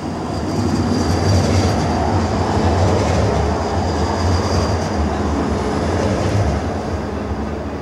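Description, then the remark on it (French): A tram rumbles past, heard from inside a home, a steady loud roll of wheels on rails with a faint high whine above it, sustained for several seconds with no voices. “Ben, par exemple, voilà, vous avez le tramway qui passe.”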